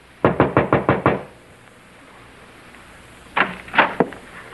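A quick run of six firm knocks on the door of a house, then a pause of quiet before three more scattered knocks, fairly loud with no voices.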